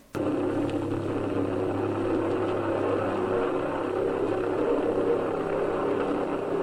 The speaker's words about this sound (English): In flight, the V-1 made a distinctive sound that caused the Allies to nickname it the Buzz Bomb. This is the way it sounded.